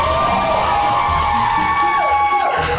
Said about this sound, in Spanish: Les doy la más cordial bienvenida a este día SIP y sobre todo dándole la gran, gran, gran bienvenida a la que aquí atrás estábamos diciendo y nombrando como la verdadera gran ganadora de la Casa de los Famosos. ¡Un aplauso para Karime!